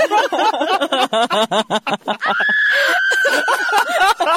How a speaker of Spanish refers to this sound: Que el grito eso no fui yo, ¿eh? No, que conste. No, fue público.